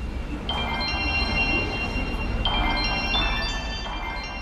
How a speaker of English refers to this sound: I found some really interesting bell sounds on the music app that I'm going to incorporate in the composition.